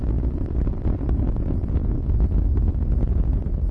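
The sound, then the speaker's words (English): Space Shuttle Discovery's main engines roar steadily during ascent, 57 seconds into flight as they rev up, a loud, continuous low rumble with a crackling, wind-like texture that never lets up, and no voices over it. “57 seconds into the flight, engines beginning to rev up.”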